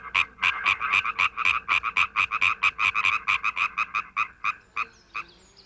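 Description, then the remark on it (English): A tree frog croaks in a fast, steady series of about two dozen loud, bright pulses, slowing and thinning out near the end with no talking. “And as a tree frog will tell you, there's no place like home in a tree, especially when your toes are like suction cups, so you stick to the bark and leaves.”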